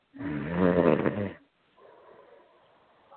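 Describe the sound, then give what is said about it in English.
A dog snores loudly, one long rumbling inhale with a rough, buzzing texture, followed by a quieter, breathy exhale that trails off softly. “He's snoring.”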